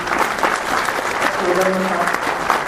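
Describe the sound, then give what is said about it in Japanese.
Sustained applause from attendees of the first MSR general study meeting on 21 June 2017, clapping to show approval of a resolution, a dense, even wash of many hands clapping that holds steady for the whole stretch, with a faint voice briefly audible beneath it midway. “改めて決議にご賛同いただける方は拍手をお願いをいたしたいと思います。”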